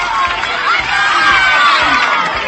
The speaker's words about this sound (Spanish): Bueno, por cierto que había muchos niños, muchos jóvenes por la playa de Riazor. Mira, mira qué ambiente, mira qué... Música, niños, sol, carreras.